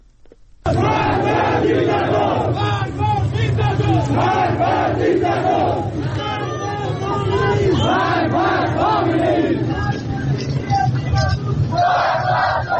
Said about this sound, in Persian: معترضان در برخی شهرهای سنی نشین در ایران روز جمعه پس از نماز جمعه به خیابان‌ها آمدند و شعارهای ضد حکومتی سر دادند. در خاش و زاهدان مردم ضمن حمایت از مولوی عبدالحمید امام جمعه شهر زاهدان علیه علی خامنه‌ای شعار دادند.